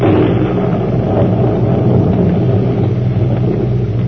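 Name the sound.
thunderstorm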